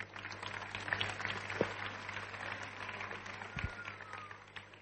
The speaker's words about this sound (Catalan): Endavant? Endavant. Fort aplaudiment.